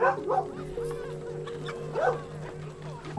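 A dog barks in two short bursts, one at the start and another a couple of seconds later, over a steady humming tonal background.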